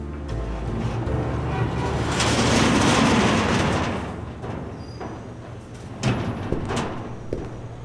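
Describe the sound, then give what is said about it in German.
A large, sticking but unlocked workshop door on 32nd Street is pushed open, grinding and scraping in a long, rough slide that swells and fades, followed by a couple of dull knocks and rattles as it settles. “Sie klemmte, war aber nicht verschlossen. Ich schob sie auf.”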